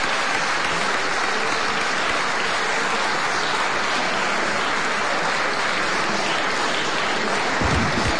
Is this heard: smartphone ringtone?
no